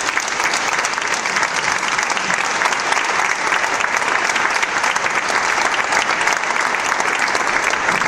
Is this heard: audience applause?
yes